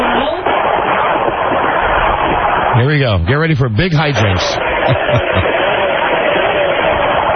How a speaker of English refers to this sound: He revved his engine. He did. That's it.